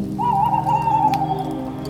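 A small owl gives a single long, wavering call that sounds distant, carried over a steady background hiss like light rain.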